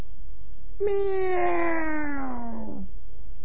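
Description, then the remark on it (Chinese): A storyteller's voice imitates a small cat with a single drawn-out meow, fairly loud, lasting about two seconds and sliding slowly downward in pitch, with no other sounds around it. “喵！啊，猫啊！”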